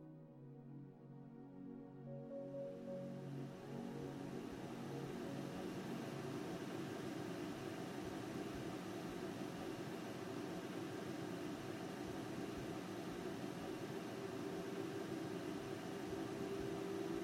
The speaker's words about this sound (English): It starts on a peaceful spring morning. You awake to the gentle hum of your bedroom fan.